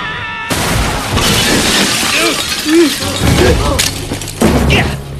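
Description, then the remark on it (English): Loud glass of a house skylight shatters in a sudden burst as two people drop through it into the living room below, followed by a long spray of falling shards and crashing debris, with heavy thuds and tinkling pieces scattering as voices cry out. “The pair drop through the skylight of a house and into the living room below.”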